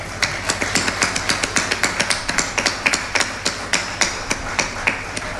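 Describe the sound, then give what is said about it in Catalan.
An audience at the offering of the 2024 festes majors of l'Arrabal de Cristo claps together in a steady rhythm, sharp, loud beats at about four per second over a continuous wash of crowd noise, with no one speaking. “Un fort aplaudiment per a tots vosaltres.”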